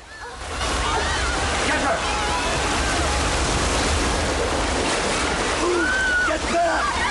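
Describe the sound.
Loud, steady rushing of water gushing and splashing into an observation room after tank windows are shot out, a constant churning roar with indistinct voices faintly caught beneath it.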